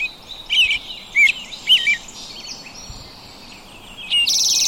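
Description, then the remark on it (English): Several robins sing over each other in overlapping bright, whistled phrases, sounding outdoors with no talking, ending in a burst of high buzzy notes. “And the robins are just singing on top of each other.”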